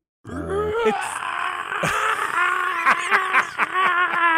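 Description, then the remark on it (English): A person imitates Emilio Estevez's scream from a film trailer with one long, strained vocal cry. It starts with a quick rise in pitch, then holds loud and raspy for about four seconds, wavering and briefly breaking. “That is my impression of that scream.”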